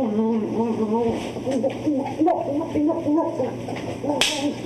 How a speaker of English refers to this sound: A little ass slapping? Sure. Yeah. I think everybody enjoys that.